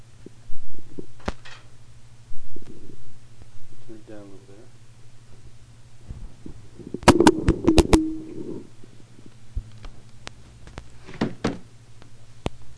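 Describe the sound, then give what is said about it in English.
A brush strikes a door in a quick burst of five or six sharp, loud hits, over a steady low hum with faint voices around them. “was doing some hitting with the brush against the door,”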